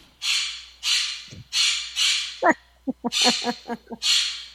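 Chickens in a studio cluck in a quick, irregular run of short, clipped notes, mixed with repeated breathy, hissing bursts. No one speaks.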